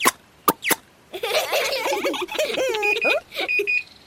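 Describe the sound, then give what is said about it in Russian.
Short, steady electronic beeps from an oven in the kitchen ring out a couple of times near the end, partly overlapping a burst of lively vocal sounds that follows a few sharp coughs or clicks. “Ой, это пищит на кухне моя духовка.”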